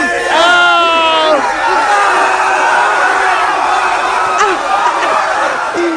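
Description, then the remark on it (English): A man who has just eaten horse manure lets out a loud, drawn-out scream that rises and wavers in pitch, carried over a dense, roaring crowd of Eagles fans that cheers and shouts continuously throughout. “That's him screaming too at the end.”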